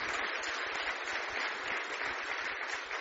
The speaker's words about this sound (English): how about just an applause and a congrats.